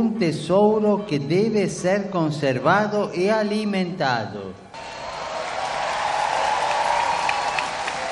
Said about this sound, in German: Die Teilnehmer des Weltjugendtages klatschten deshalb zu Ehren ihrer Großeltern mit großer Herzlichkeit